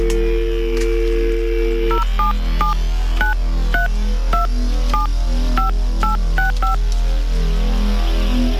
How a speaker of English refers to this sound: Let us phone up somebody else who has texted through this morning. Just going to dial up the number now.